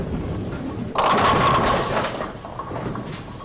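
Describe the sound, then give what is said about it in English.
A low rolling rumble gives way to a sudden loud crash as a bowling ball knocks over 9 pins, leaving the 7 pin standing, a burst of bright clattering that rings on for over a second before fading back into steady background noise. “You knocked over 9 pins, leaving 1 pin standing.”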